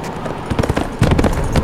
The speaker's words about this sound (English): Pine heard Frank's horse galloping toward him from the rear.